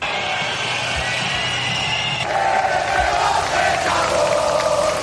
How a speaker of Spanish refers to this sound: El presidente ha llegado poco antes que los reyes y la princesa Leonor, y a pesar de que este año la tribuna estaba más lejos del público, se han repetido esos pitos y esos abucheos.